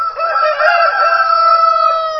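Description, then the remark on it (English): A rooster on a farm crows loudly, one long, drawn-out, strained call that fills the whole moment with its harsh, wavering tone. No one speaks. “Since it was a farm with other animals as well, he could also hear some roosters crowing”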